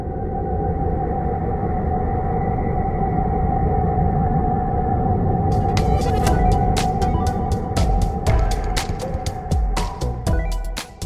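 An eerie, continuous drone of Saturn's plasma waves, generated by the energy of one of its moons, captured by NASA and translated into audible sound: a steady humming tone over a rumbling wash, joined midway by sharp crackling clicks that pop irregularly until the end.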